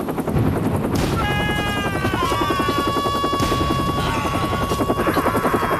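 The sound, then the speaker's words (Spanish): A helicopter roars with a fast, steady rotor chop and a rising high-pitched turbine whine, loud and continuous throughout, played back from a video on the Helicoptelovers Instagram page. “Y veréis un montón de gente que ya ha probado nuestros helicópteros.”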